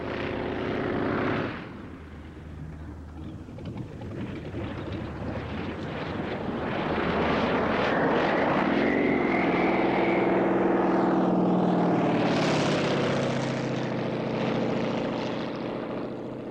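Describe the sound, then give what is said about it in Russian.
A maneuverable propeller airplane, flown by flight-school cadets, roars through aerobatic maneuvers, its engine pitch climbing and dipping as it swoops and turns, loud and continuous for the whole stretch with no voices. “Маневренная машина. На ней летают наши лучшие курсанты.”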